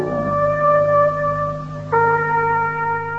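Instrumental music from a record played on Radio London: long, sustained tonal notes ring out steadily, with a new held note entering partway through. Played clearly and fairly loud, with no voices.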